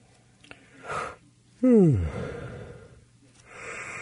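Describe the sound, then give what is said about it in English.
A single loud yawn, made while killing time waiting for a phone call to connect, with a voiced sweep that slides downward in pitch, preceded by a soft intake of breath and trailing off into quiet breathing. “I'm just killing time, yawning in your ear, waiting for waiting for our phone call here to work out.”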